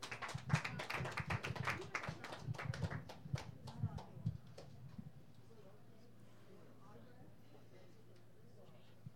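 An audience claps steadily for several seconds for a band getting set up on stage. The dense, overlapping hand claps thin out and stop about halfway through, leaving a low murmur.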